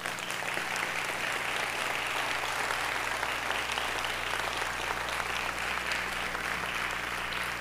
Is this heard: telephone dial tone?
no